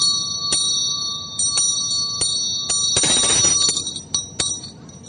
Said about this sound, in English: The right hand comes in towards you. And that represents music. And then when you do that, you play your bell.